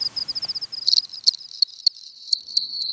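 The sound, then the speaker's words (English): A cricket chirps steadily in a fast run of high, even pulses, then shifts to sharper, spaced clicks and trills, clear against a quiet night background with no voices. “So you go outside at night and you listen for cricket song.”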